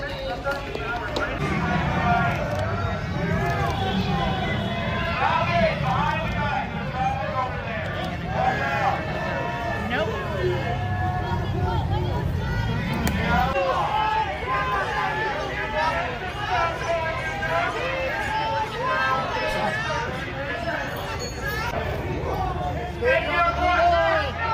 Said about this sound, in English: They're shouting peaceful protest in the background.